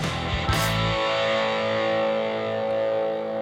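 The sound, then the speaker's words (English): An RE-201 Space Echo tape echo effect smears a distorted, buzzing tone into a sustained wash after a sharp burst near the start, with the sound ringing on loudly and evenly until the end. No voices. “And the RE201. Space Echo, what a surprise, we used that again in the end.”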